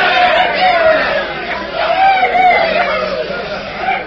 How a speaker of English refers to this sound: Look how happy everyone is. Look at them cheering and shouting.